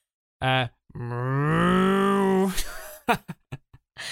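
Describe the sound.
A person imitates a cow's moo: a short vocal burst, then a long, loud, drawn-out lowing call with rising pitch, followed by a few brief breathy sounds and clicks.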